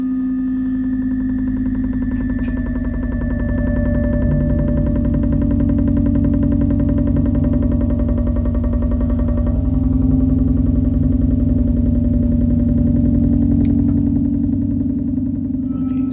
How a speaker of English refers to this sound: There's just this one dish that I found, and it's vibrating the desk and carrying it all the way over here to this, to a can of nuts and bolts on the table.